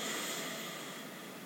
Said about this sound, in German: Wir atmen wieder durch die Nase ein.